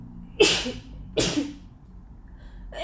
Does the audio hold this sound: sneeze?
yes